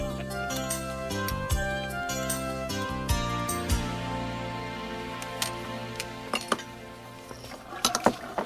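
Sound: dishes and pans clinking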